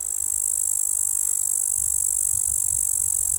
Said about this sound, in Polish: Niedawno mówiłem o pasikonikach zielonych przy okazji grillowania w ogrodzie, a tutaj nad rzeką i różnego rodzaju wodami będą pasikoniki śpiewające. Głośniejsze, te dźwięki są bardziej takie jednolite.